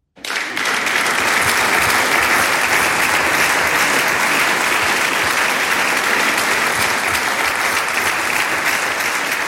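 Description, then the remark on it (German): Sustained audience applause for ten folk music and singing groups at the ORF Oberösterreich Musikantentag in Gipoldskirchen, a dense, steady wash of many hands clapping that starts abruptly and holds at a loud, even level throughout, with no music or talking. “Den Applaus haben sie die 10 Volksmusik- und Gesangsgruppen beim ORF Oberösterreich Musikantentag in Gipoldskirchen mit ihren leidenschaftlichen Auftritten verdient.”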